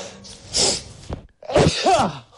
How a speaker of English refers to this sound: I literally tickled my nose, I sneezed, and I walked straight out the door.